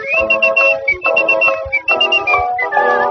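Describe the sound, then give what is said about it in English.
A bright whistled tune hops between sustained high notes over steady instrumental accompaniment, loud, with short breaks between phrases. “in the Bowery, there's a whistling boy.”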